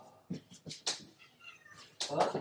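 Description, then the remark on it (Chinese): A pet house cat meows several times in short, insistent calls as it wants to go out the door, ending with a louder, drawn-out meow, with faint voices in the background. “我们家的猫会说话，也会听我说话，它完全懂的。”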